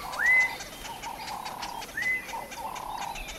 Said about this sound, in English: That's because people in different parts of Africa call the birds in different ways. For example, in Tanzania, people whistle at the birds.